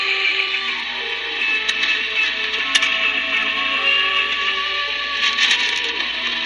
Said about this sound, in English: Let's see if they're still on. Click on the radio. It's just flipped 1300 UTC, 1300 UTC Sunday morning. There's some static crashes there, but yeah, he's still there.